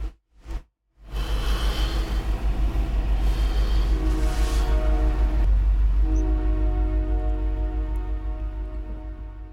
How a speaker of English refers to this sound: And a train's coming.